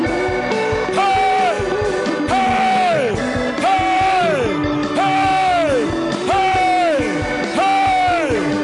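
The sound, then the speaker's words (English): A worship audience shouts and cheers loudly and continuously, giving the Lord a shout, many voices yelling and whooping together in rising and falling waves that repeat roughly every second. “Come on, give the Lord a shout.”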